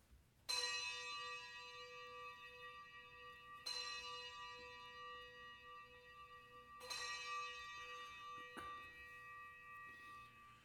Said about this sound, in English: Let us ring the bells of affirmation.